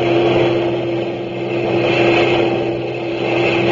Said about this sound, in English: A few minutes later, she heard a low, throbbing roar, and around a bend in the road, the first heavy trucks of a long German motor convoy roared into view.